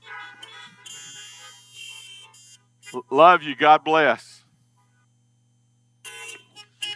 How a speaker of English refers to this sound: And again, let's give our guest a honk. Let's honk for them.